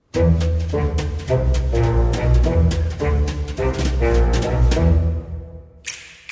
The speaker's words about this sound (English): Well, the music, the little trumpet fanfare at the beginning. Great Scott. Is that Batman? No. It sounds a bit like Batman.